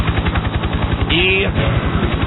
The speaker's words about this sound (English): Let's now welcome. Here they come. As their helicopter gets here.